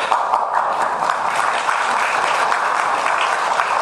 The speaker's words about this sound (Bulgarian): Приемам тези ръкопляскания и като поздрав за празника, личния празник на съдия Карагьозова и съдия Маркова, които наистина днес имат повод да приемат поздравления.